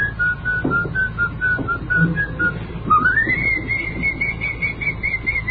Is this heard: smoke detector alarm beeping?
no